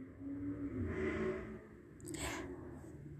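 A car engine revs in two swelling surges, its low rumble rising and then easing back, somewhat muffled, with no voices present.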